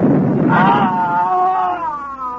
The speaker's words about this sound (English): On the morning of June 15th, Guy Burkhart woke up screaming.